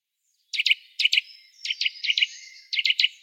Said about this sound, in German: Hören wir uns nochmal an, den süßen Kleiber.